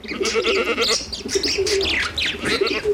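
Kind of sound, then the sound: animal, dove cooing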